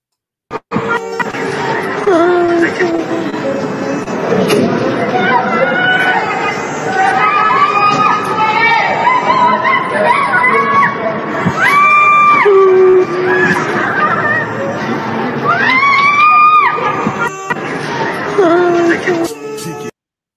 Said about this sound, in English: The next video is very upsetting. It shows the last desperate screaming of the victims before they were burned to death.